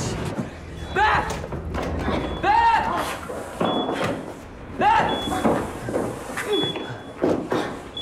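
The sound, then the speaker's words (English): Someone kicks hard at a door several times, trying to force it open inside a building, heavy thuds landing about every second or two amid strained shouts and grunting voices, with a thin alarm-like tone sounding intermittently. “Having made it inside, … tries to kick a door open.”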